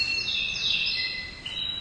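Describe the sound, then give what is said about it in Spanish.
Small birds chirp and sing continuously, their high, bright tones overlapping in a busy, steady chorus, with no voices present. “¿Os dais cuenta cómo me están dando la razón los pajaritos?”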